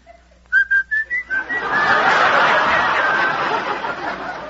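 person whistling

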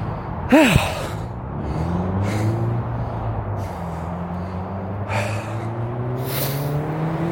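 car passing by

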